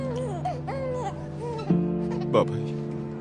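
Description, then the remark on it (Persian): Someone crying, a steady wavering wail with rising and falling pitch, broken by two sharper, louder sobbing catches toward the end. “بابای گریه نکن”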